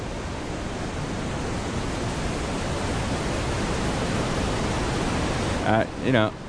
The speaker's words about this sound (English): But we have for you pink noise that will help you as far as your relaxation and concentration. Okay? Here we go.